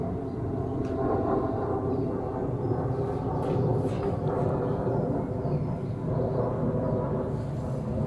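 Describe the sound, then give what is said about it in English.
A steady, low rumbling drone of an airplane passing overhead, sustained at an even loudness throughout with a broad hum, no voices present. “Planes and boats and trains and conservatory builders.”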